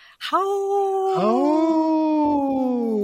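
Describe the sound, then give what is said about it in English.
Loud, sustained wolf howling fills the whole clip, one long gliding howl joined a second later by another lower howl overlapping it, clear with no talking. “That's kind of fun that you kind of synchronized wolf howling on the screen.”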